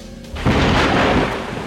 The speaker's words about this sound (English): The crackling sounds of thunder and lightning briefly jolt her awake.